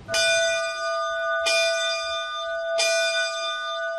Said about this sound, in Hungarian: Ünneplésre szólít a Gyimesfelsőloki Árpádházi Szent Erzsébet gimnázium csengője.